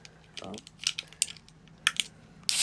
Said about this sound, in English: This time round, I have vodka and a Red Bull, and I'm just gonna sip it along the way. Let's open this fucking Red Bull.